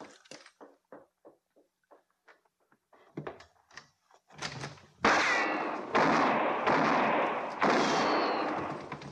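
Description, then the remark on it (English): A few quiet scattered knocks give way to a rapid series of loud, booming gunshots in a shootout, four or five forceful blasts in quick succession with heavy echo, with no talking. “I'll stay down on the floor and open the door to draw his fire.”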